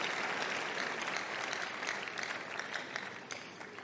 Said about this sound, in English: I can see somebody wants to clap for the Lord. If you do, please do that joyfully.